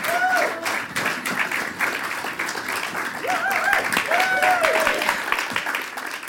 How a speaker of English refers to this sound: So please give a big round of applause for …! Woo!